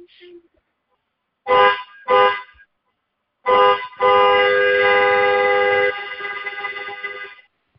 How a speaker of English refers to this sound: Yes, you turn the car on, and then you do two honks for about 2 seconds each, and then one long, sustained honk for at least 5 or 10 seconds, somewhere in that range.